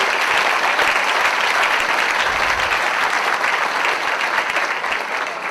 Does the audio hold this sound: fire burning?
no